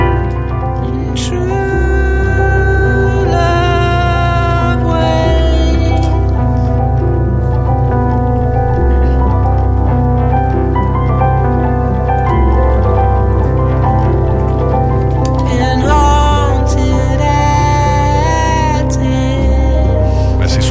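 A melancholic rock ballad plays loudly and continuously, with sustained, ringing tones layered over a steady low bass for about twenty seconds, and no one talking over it.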